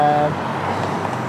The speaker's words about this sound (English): So, of course, in 5 years' time, all of these cars will be electric. Yeah. They'll be much quieter.